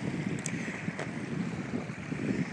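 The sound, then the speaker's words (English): A steady, broad rush of river water fills the scene, constant and fairly loud without pauses, running across a thick gritstone base through a channel it has carved, heard from a bridge, with no voices present. “At this point in the river, it's got a very thick gritstone base.”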